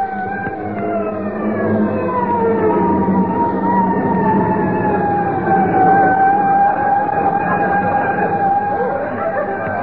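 A fire engine siren wails loudly and continuously as it passes, its tone holding steady then sliding gradually lower, over a low rumble of engine and traffic noise.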